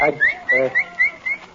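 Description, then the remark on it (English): A quick series of about five short, rising whistles, like someone calling a dog, fairly loud, with a brief voice underneath at the start. “What week you been whistling like you was calling a dog?”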